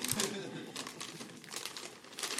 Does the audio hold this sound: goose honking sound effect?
no